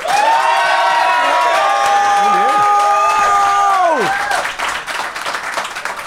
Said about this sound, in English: But if you think Josh and Ben made the best case, applaud now.